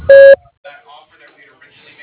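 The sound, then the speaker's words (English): A single loud, steady electronic tone lasting about a quarter second, the classic answering machine beep, followed by a person beginning to speak. “Please leave a message at the sound of the beep, and I will return your call as soon as possible.”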